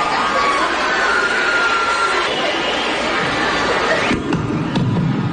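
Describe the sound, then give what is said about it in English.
A large concert crowd of fans roars and screams continuously, a loud, dense wall of voices that never lets up, with a few sharp knocks or thuds near the end as the performer drops the microphone. “And you guys are screaming.”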